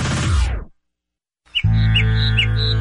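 birds chirping

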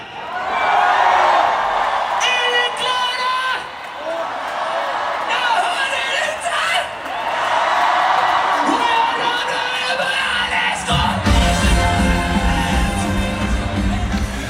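concert crowd cheering

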